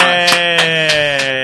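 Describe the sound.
A human voice imitates a sheep's bleat: one sustained, nasal tone that wavers in quick regular pulses for about a second and a half, close and loud, with no other talking.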